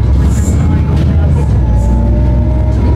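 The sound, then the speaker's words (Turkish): Loud, steady rumble of an old city bus engine droning continuously from inside the vehicle, with faint rattles and a whining tone over the low roar. “Bu bir de eski otobüs. Motor gürültüsü de fazla olduğu için arkadaşlar.”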